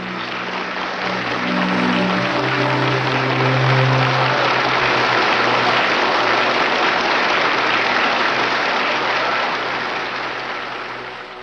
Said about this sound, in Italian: Un lungo e meritatissimo applauso.